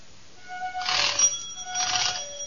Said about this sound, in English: Listen. That's the way the doorbell sounded at number 14 Pembroke Street in Glasgow, Scotland.